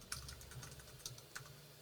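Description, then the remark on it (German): Quiet, irregular clicking of keys on a computer keyboard, several light taps in quick succession over a low background hum, with no voices. “So, im Hintergrund, ich bin parat. Das Tippen noch.”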